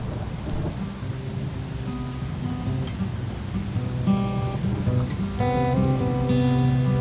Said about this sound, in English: In addition to the solar flares and solar eclipse that are emerging at the cusp of the Earth's atmosphere, a summer storm begins its torrential downpour.